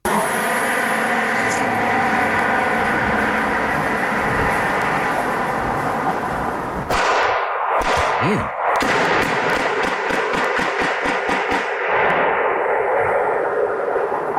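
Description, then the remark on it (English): Recorded by a neighbor's Ring doorbell camera in North Buckhead: a steady rushing roar of a car flying down the street gives way to a rapid volley of sharp, loud gunshots, more than a dozen cracks in quick, uneven succession before the noise settles. “And so I want to brace yourself, trigger warning, because neighbor had a Ring cam and caught the car flying down the street. And so I just want to brace yourself. You're going to hear some shots.”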